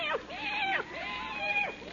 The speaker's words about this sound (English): Hello, kitty. Hey, kitty, kitty, kitty, kitty.